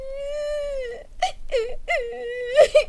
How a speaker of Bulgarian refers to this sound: продължаваше да мълчи и плаче.